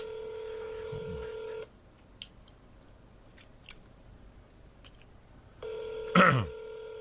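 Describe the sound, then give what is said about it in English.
A phone call rings through on speakerphone: a steady, buzzy electronic ringback tone sounds, falls silent for about four seconds, then starts again, with a brief crackling click over the second ring. “See if I can connect to and put him on speakerphone on my phone.”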